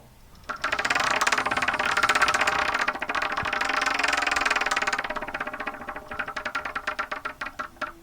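A prize wheel called the 'Wheel of Torture', set off by a button press to choose between S and B, spins with a dense, rapid clicking that runs steadily for several seconds, then slows into distinct, spaced ticks before stopping; no one speaks over it.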